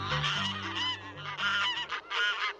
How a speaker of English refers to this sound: Is any bird more ordinary, more unlikely to draw praise, than a barnyard goose honking and waddling about the farm?